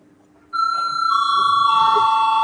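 A parliament chairman's bell calling a vote starts abruptly after a brief quiet moment, then rings as a loud, steady, high-pitched electric tone through to the end, with low murmuring underneath.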